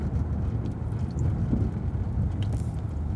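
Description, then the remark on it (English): Someone sips and swallows water, giving soft wet gulps and mouth noises over a steady low rumble, with no talking. “Drinking a little bit of water to try to cut down the possibility that I'm going to cough.”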